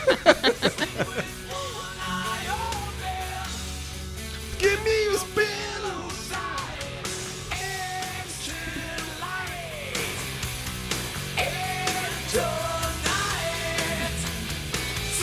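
song played

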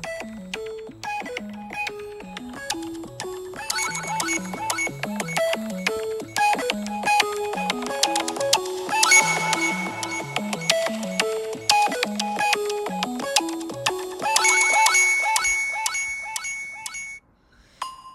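signal or alarm, iPhone ringtone playing

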